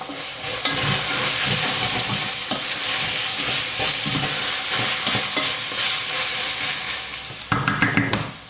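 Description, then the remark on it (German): Steady, loud sizzling of meat and onions frying in lard, with repeated scraping and clinking as they are stirred in the pan, ending in a few sharper scrapes. “das Fleisch und die Zwiebeln und das Schmalz und mehr ist noch gar nicht drin.”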